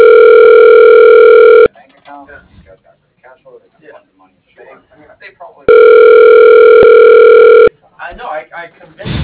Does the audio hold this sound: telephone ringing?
yes